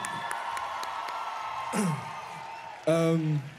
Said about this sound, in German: Ein großer Applaus, bitte.